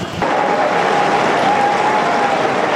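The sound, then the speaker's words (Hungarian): A large crowd bursts into sustained applause, thanking Pope Francis for his teaching, thoughts and blessing, a dense, steady wash of clapping that starts abruptly and holds at an even, loud level throughout. “Ma is tapssal köszönik meg Ferenc pápának a tanítását, a gondolatait, az ő áldását.”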